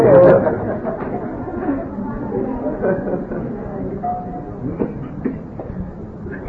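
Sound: train interior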